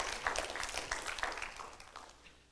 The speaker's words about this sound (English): Somebody ought to clap their hands and give God praise.